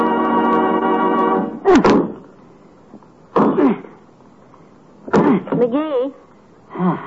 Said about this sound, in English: Why don't you keep chopping in the same place all the time? That tree looks like it's been chewed by a cross-eyed beaver.